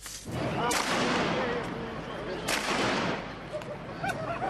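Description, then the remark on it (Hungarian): Two sharp shotgun blasts ring out a couple of seconds apart, with a fainter third crack near the end, over a constant rumble of crowd noise and scattered voices: police firing shotguns repeatedly at passers-by on 23 October 2006, recorded by the police themselves during the operation. “Látszik, ahogy többször rálőnek a járókelőkre.”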